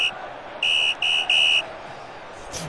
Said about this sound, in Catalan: Però l'àrbitre xiula al final de la primera part.